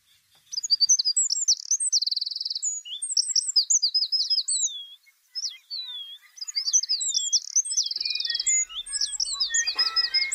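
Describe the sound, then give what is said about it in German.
A musician wren sings a long, varied song of clear whistled notes and rapid trilled phrases, bright, with a brief pause midway and no talking. “Und zum ganz herausragendes Beispiel ist der Flageolett-Zaunkönig.”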